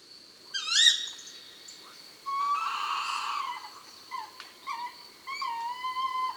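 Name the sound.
tawny owl calling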